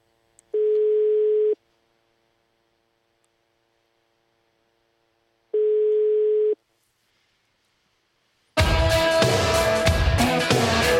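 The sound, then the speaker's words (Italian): Two steady telephone rings on the call-in line of the radio show La Zanzara, each about a second long and spaced several seconds apart, followed by music kicking in loudly near the end. No one speaks. “Squilla il telefono della zanzara, vediamo.”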